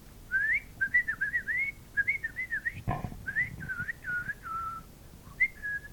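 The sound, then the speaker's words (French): A person whistles a warbling, birdlike tune imitating singing birds, a steady run of short trilling phrases rising and falling, clear with no talking and a brief low thump midway. “Les oiseaux chantent.”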